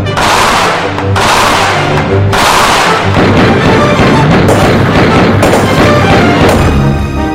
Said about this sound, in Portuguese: Eita, foi bala, foi tiro!